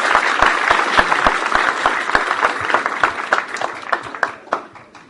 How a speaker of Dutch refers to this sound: Nou, geef een jongen even een applaus. Hartelijk welkom.